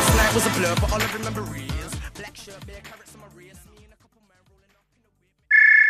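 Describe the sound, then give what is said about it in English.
A dense, clattering wash of sound slowly fades into near silence, then a loud, bright electronic phone ringtone abruptly starts right at the end. “Takes ages to fade out, doesn't it? And then the phone rings, and then he picks up and is like, hello?”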